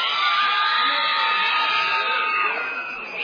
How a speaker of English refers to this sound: With that high-pitched scream.